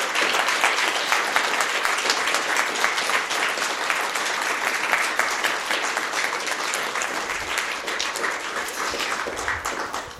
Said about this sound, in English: Fantastic. Let's get a large round of applause for our candidates.